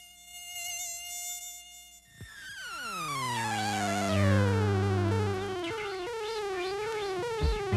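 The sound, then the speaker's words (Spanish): A high, whining mosquito buzz drones continuously, its pitch sliding and wavering as if the insect circles, loud and alone with no voices. “Los murciélagos, para saber por dónde vuelan, o, si son insectívoros como Marcelo, para saber dónde demonios se meten los mosquitos y los insectos en la oscuridad de la noche.”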